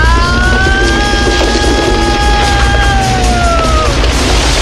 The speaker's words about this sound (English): The roof collapses.